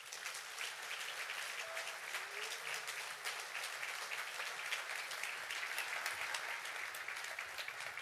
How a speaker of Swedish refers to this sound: med stor kärlek, värme och innerlighet så säger vi välkommen till dig med en applåd.